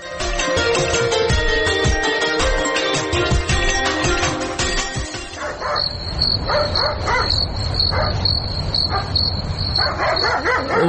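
A dog barks repeatedly in short bursts over a steady high insect-like chirping, following a few seconds of dense, loud noise at the start.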